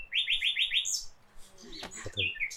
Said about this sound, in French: Alors les rossignols sont avec nous, ils vont être avec nous toute la nuit, un peu plus calme entre minuit et 3h30, mais à partir de 3h30, pour ceux qui sont toujours là, ils vont venir nous soutenir.